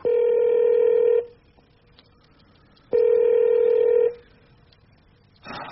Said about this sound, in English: Preparations were well in hand by the time he breathed his last. Telephones immediately ringing all around the Vatican.